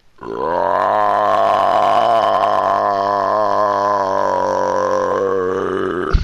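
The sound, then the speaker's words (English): A single loud, drawn-out belch rumbles on for about six seconds, deep and guttural with a wobbling, gravelly tone, steady in strength until it cuts off. “So I take a couple of steps, so I'm within range of the goblins, and I just unleash this horrendous burp, this massive belch, in the direction of the nearest goblin.”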